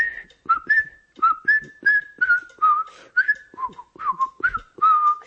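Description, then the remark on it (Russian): A person whistles alone a fugue by Bach once used as a signal whistle by a whole theatre: a quick melodic tune of short rising and falling notes in a steady, lively rhythm, clear with breathy attacks between phrases. “А у нас еще из джаза остался такой сигнальный свист, и этим свистом тогда пользовался весь театр. Это была фуга Баха. Я сейчас попытаюсь ее просвистеть.”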